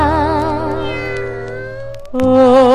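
A kitten gives two long, drawn-out meows, loud and close, the first wavering for about two seconds before a brief break and a second, higher cry. No one speaks.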